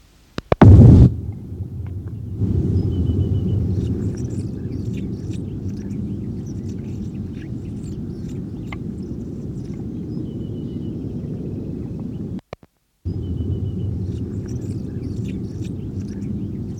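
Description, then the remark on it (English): Four display flights by a juvenile Anna's hummingbird: a sharp, loud burst near the start, then faint scattered high chirps over a steady low rumble, with a brief break in the background late on. “four display flights by juvenile Calyptiana, the same bird that gave the previous series of songs.”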